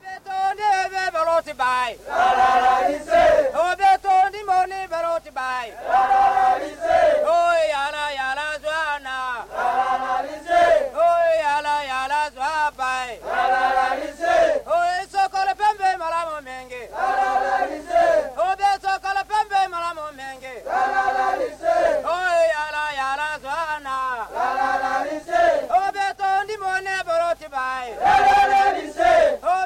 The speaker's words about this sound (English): this is one of the songs we heard as the elephants were being ridden down to the Napoco River for their evening bath